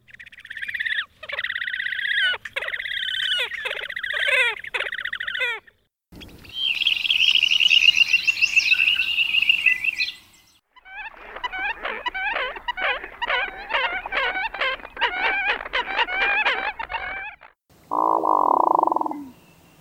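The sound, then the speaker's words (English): Calls of waterbirds that winter around Chesapeake Bay, a horned grebe, dunlin and American coot in turn: a loud trilling squeal, a harsh buzzy rasp, rapid repeated piping notes, then a brief nasal honk, with no talking. “The sounds, in order, were the horned grebe, dunlin, American coot, hooded merganser, tundra swan, and snow goose.”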